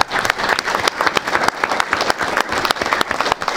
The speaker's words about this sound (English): That's worthy of a round of applause for these kids.